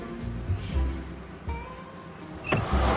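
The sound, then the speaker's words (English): A truck engine rumbles low and uneven, with heavy thumps and a jolting surge near the end as the truck, just shifted into first gear, lurches forward and stalls. No one speaks. “The truck lurches forward and stalls.”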